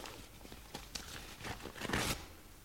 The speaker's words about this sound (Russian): Отлично. Давайте вскроем пакет.